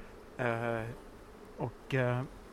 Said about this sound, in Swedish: Alltså, nu ska ni veta, nu är det rejält med bin och det surrar rejält här.